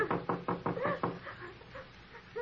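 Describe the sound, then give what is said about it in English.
Five quick, evenly spaced knocks rap on a wooden door, followed by a quieter stretch with faint murmuring voices and a soft tonal sound near the end. “Well, it won't hurt just to rap on the door.”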